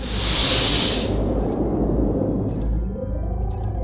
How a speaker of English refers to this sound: I stepped onto the Prowl, and the door closed behind me.